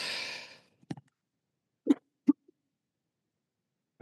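A breathy, hissing intake of air, then three short, sharp coughing bursts spaced a second or less apart, with no talking.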